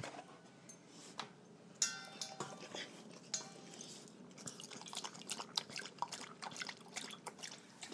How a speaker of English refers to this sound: Usually when we get in from park time, taking her out, she loves to come in and have a drink of water.